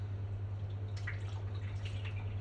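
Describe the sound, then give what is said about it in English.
A dripping tap in a flat: a few faint, soft drips land irregularly, about one a second, over a steady low electrical hum, with no voices. “And anyway, a dripping tap that won't shut up.”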